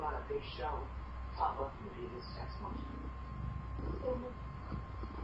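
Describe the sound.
A cat purrs right against the microphone, a steady low rumble that runs through the whole moment, with soft, indistinct voices murmuring over it.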